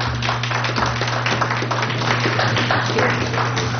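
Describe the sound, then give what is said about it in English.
A crowd applauds steadily for several seconds, a dense, even patter of many hands clapping at constant loudness over a low, steady hum. “Okay, I guess I'm going to have to make my little applause speech.”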